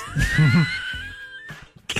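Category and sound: human body sound, sneeze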